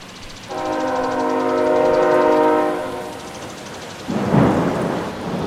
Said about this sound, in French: On regarde passer l'orage.